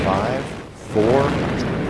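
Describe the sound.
A loud, continuous roar of Space Shuttle Atlantis's main engines starting at launch in 1995, on its second visit to the Russian space station Mir, carrying a Russian docking module. The roar rumbles steadily, broad and harsh, dipping briefly before surging back, with a voice talking faintly over it.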